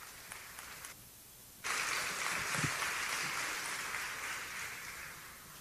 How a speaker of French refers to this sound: On peut applaudir Vicky Lelièvre.